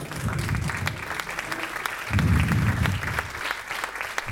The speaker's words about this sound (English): So guys, what we like to do when we introduce our speakers, if you could all stand up and give him a big round of applause